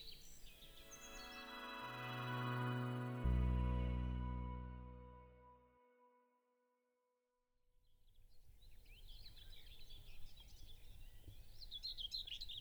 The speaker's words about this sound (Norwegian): Det er en tornsanger. Ja, vi står her i ræveskiftet faktisk. Og klokken er 5 om morgenen eller sådan noget.